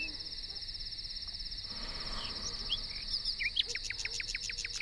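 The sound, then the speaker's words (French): A nightingale sings on a moonlit night, a quick run of repeated, sharp whistled notes toward the end, over a steady high-pitched insect drone that continues throughout. The song is clear. “Soudain, par la croisée entrouverte où se jouaient des rayons de lune, entra la voix d'un rossignol.”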